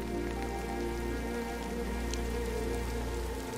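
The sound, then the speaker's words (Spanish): Steady rain pattering on a surface, a dense, continuous hiss of drops that stays even throughout, with no voices. “Aquí abrazas la eterna sabiduría de la lluvia.”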